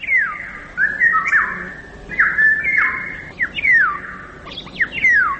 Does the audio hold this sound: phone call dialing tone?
no